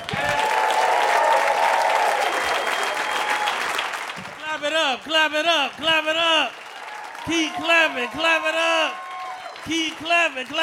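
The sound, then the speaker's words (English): A comedy show crowd applauds loudly for about four seconds for the next comic coming to the stage, a dense wash of clapping, then a man starts talking over it as the applause fades out beneath him. “Keep clapping, clap it up.”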